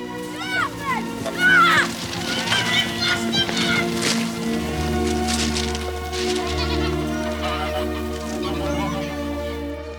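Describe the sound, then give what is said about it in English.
A flock of sheep on an overgrown railway line bleats continuously as a person walks through and they scatter, many overlapping wavering calls, while a steady low droning hum rises underneath in the second half. “On the overgrown railway line, Annie walks through a flock of sheep.”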